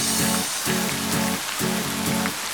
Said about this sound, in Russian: Ой, дождик пошел! Посмотрите, как здорово!